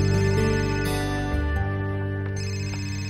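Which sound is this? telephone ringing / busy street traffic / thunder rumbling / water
telephone ringing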